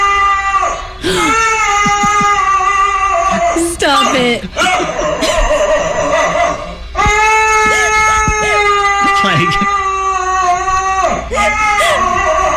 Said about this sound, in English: You've probably heard a lot of dog, like, weird dog howls, but this one may be the weirdest one of 2020